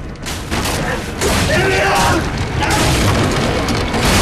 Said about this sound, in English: It falls off the forklift and shatters as it hits the ground.